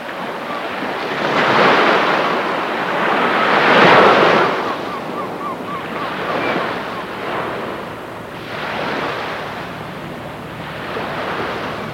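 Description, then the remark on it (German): Sea waves wash onto an island shore in broad, rolling surges, each swelling and receding in a steady rhythm, with a constant wind-like hiss beneath and no voices. “Auf dieser Insel, auf der die Häuser so klein, das Meer aber so weit erscheint.”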